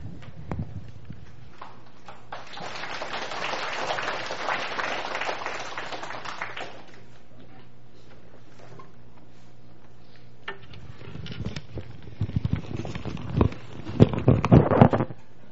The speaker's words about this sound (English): 请弟兄姐妹等会儿不用再鼓掌了。 I ask all the brothers and sisters to hold their applause.